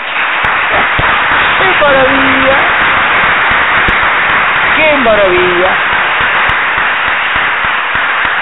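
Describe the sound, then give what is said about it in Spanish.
An audience applauds steadily for about eight seconds, a dense, even crackle of many hands clapping, while a voice calls out briefly over the clapping a couple of times. “Solo por molestar, otro aplauso.”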